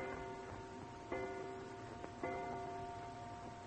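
household object, clock striking

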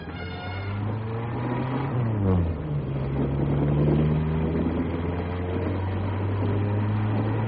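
vehicle, car engine driving fast

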